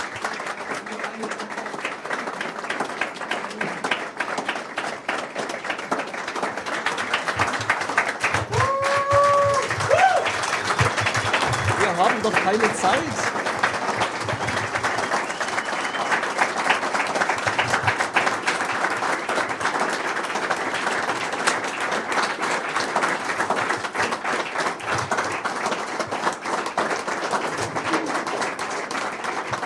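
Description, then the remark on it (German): Sustained audience applause, a dense steady wash of many hands clapping at even loudness for about half a minute, with a brief cheer or whistle rising partway through. The applause is for the two people who gave the closing at the YCMP event. “Noch bitte einen großen Applaus für die beiden.”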